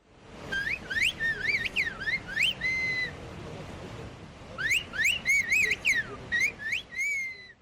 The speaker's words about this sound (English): A whistled language is a highly developed method of communication. People use whistling sounds in place of words. The language was created as a way to communicate across great distances in difficult mountain conditions.